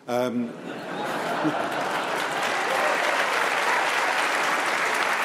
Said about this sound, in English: Well, please do. Let her have her applause.